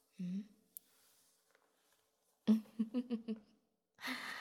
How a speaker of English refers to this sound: All of these little vocal effects, part of the upgrade, the whispering, the breathing. I almost feel quite human.